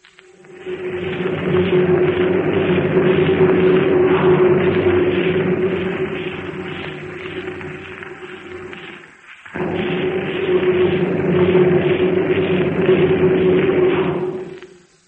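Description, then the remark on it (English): A deep, steady rumble with a humming tone, a building vibration shaking foundations and walls as a subway train passes through the tube almost directly underneath a theater; it roars continuously, fades briefly around nine seconds, then swells back up before cutting off. No voices are heard. “Really, it was a building vibration, shaking the foundations and walls as a train passed through the tube almost directly underneath the theater.”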